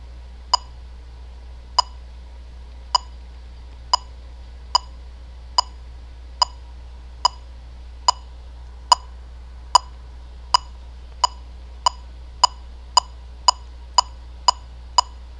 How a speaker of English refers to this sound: Now I'm going to turn the metronome on and then set it to a preferable speed. Okay, this is what it sounds like. Okay, this is 0.